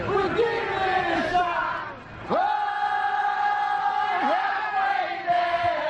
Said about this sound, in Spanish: Bueno, esos aplausos, las palmadas consiguen reunir la atención de todo el parque y se van uniendo al coro hasta vibrar al unísono.